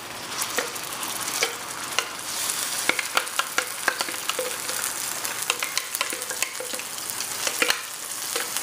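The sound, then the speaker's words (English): Loud sizzling from a hot pan as a prepared wet mixture is poured into the oil, a steady hiss peppered with sharp crackles and pops throughout, with no one speaking. “Okay, now what we're gonna do is the mixture that we made, we're gonna go ahead and put it into our pan here.”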